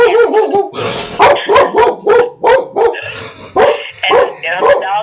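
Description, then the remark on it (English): A dog barks repeatedly in quick, loud bursts, some barks sharp and high, a few softer yips and whines between them, with no talking over it. “Yeah, well, she's going to have to bark.”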